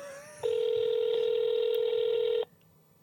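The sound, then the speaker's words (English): A ringing tone from a call to a former colleague's phone abroad: one long, steady mid-pitched beep lasting about two seconds, loud and unbroken, with only faint hiss before and after. “That's an abroad phone.”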